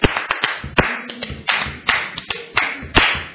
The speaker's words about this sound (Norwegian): Vi klapper kanskje i rytme.